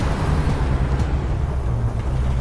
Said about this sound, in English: Now the red pickup truck moves along the empty road. The man is driving it, now wearing a ball cap and sunglasses.